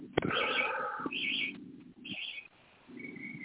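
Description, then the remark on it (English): Birds chirp and warble outdoors in short bursts of high, bright calls, with a lower cooing-like tone underneath, heard in the background of a caller's line from Las Vegas, moderately quiet, no one speaking. “I lost a little bit because it sounds like there's birds out there chirping away.”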